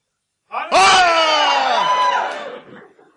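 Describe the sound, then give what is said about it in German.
An audience at a church service bursts into loud cheering and whooping for Jesus, many voices rising together at once, holding for about two seconds before gradually fading out. “Lasst euch dieser ganzen Freiheit und dieser Leidenschaft Gottes als Reaktion, als Antwort mal freien Lauf und sagt, hey, so irgendwie so, der klasse Herr, komm, lass mal einen Jubel für Jesus geben.”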